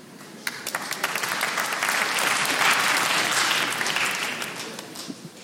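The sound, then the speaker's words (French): An audience in an 1,800-seat hall bursts into applause in answer to a performer's question, a dense crackle of many hands clapping that swells quickly and holds steady at a moderate level for several seconds with no voices on top. “Par applaudissement, qui ici, en toute franchise, a profité de la pandémie pour se sublimer physiquement?”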